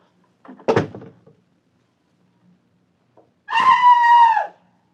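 A bathroom door thuds shut with a short rattle, then after a pause a sustained, muffled scream from inside the bathroom rises and holds for about a second before cutting off.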